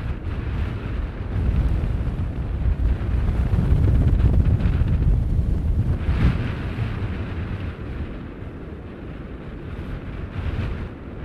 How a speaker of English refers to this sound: No, the wind isn't too bad. It's blowing at quite a lick. You can hear the roar of the sea. It's quite far out now, the tide's out.